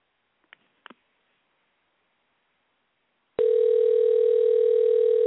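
A few faint clicks, like a handset being lifted, then a steady, loud telephone dial tone starts abruptly as a call is placed to a show's guest, holding unbroken for about two seconds. No one speaks.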